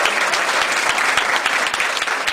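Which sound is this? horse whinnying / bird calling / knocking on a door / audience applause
audience applause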